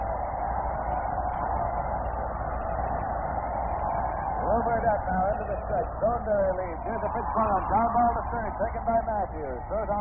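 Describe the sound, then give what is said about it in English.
A dense, steady baseball stadium crowd roar fills the whole stretch after a hit, thin and muffled like an old broadcast, with individual shouts and whistling cheers rising above it in the second half. “And this crowd is alive at the Polo Guard.”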